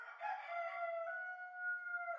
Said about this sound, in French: Il doit être 5 heures du matin et je suis réveillé depuis plus de 20 minutes quand le coq se met à chanter.